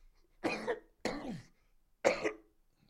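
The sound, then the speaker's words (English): Three harsh coughs in quick succession, each a broad raspy burst with short pauses between, the last one sharpest and loudest. “The coughing again.”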